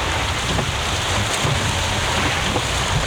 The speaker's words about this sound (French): Oh, le bateau, il glisse là, mais c'est waouh.